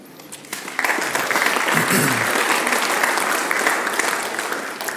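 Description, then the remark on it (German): An audience at a talk breaks into steady applause after a brief quieter moment, many hands clapping in a dense, even wash that holds loud for several seconds, with a faint voice briefly audible underneath. “Noch gar nichts gemacht von Applaus, ne?”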